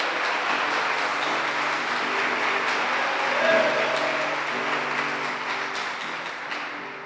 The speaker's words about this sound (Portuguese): Dá uma salva de palmas ao Senhor, amém?